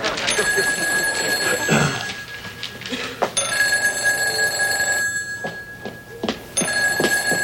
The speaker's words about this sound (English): What is the matter with you? Are you too good to answer the phone?